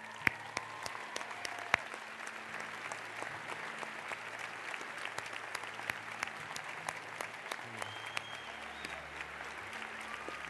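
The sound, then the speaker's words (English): Steady applause from an audience, a dense patter of many hands clapping at once that holds for about ten seconds, with a faint low hum beneath it and no voices. “And as we just give one more clap.”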